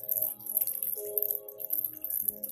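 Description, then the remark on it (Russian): Water trickles and drips steadily, a soft, continuous flow of a spring with clean water, with gentle tonal background sounds and no voices. “Возле меня течет родник с чистой, целительной водой.”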